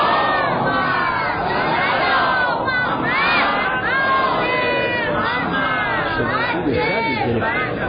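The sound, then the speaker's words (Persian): An audience chants salawat together in unison, a loud, continuous swell of many overlapping voices, sustained for several seconds without a break, full. “محبت کنی یه صلوات دیگه بفرستی.”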